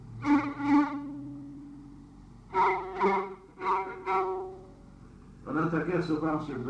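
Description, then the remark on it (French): A voice hums a nasal, buzzing drone in several sustained bursts, imitating a violin droning on two strings, with short pauses between phrases and a louder, busier stretch at the end. “Non, mais au violon, il faisait des bourdonnes toujours comme ça.”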